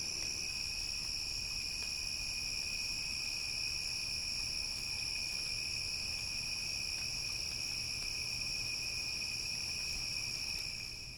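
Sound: crickets chirping at night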